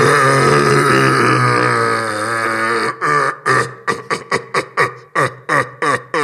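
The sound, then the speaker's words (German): A human voice imitates a red deer's rutting roar to lure a hind (female red deer): a long, low, harmonically rich bellow, then about nine short, forceful grunts in a steady rhythm, loud and with no other sound. “Also die Hirschkuh, damit die angelockt wird, wird der Brunftschrei nachgemacht.”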